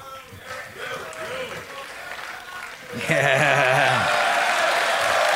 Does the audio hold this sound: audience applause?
yes